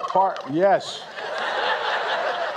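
A short burst of warbling gobbles from the two North Carolina turkeys, Chocolate and Chip, pardoned by President Biden before Thanksgiving, followed by a steady wash of crowd noise and murmuring in the background.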